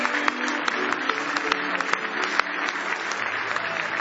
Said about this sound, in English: Are you glad you're hearing what you're hearing? Give the Lord another hand clap of praise.